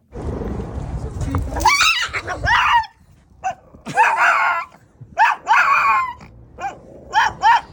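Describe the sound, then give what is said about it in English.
A 3-year-old Shih Tzu of about 10 pounds screams on first meeting another dog, in shrill, piercing bursts of anger and terror: several wailing cries in quick succession with short pauses between, loud, opening over a low rumbling growl. “An absolute scream of anger and terror.”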